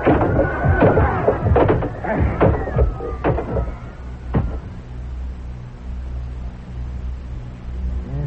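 A locked door being smashed open with a chair: a rapid, irregular run of loud wooden bangs and cracking crashes for about four seconds, then a final blow and a low steady hum.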